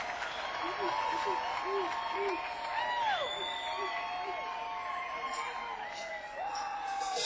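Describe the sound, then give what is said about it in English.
A large crowd in Melbourne, Florida cheers and applauds steadily, with a dense wash of clapping beneath rising and falling whoops and shouts, sustained at an even loudness throughout. “crowd from Melbourne, Florida.”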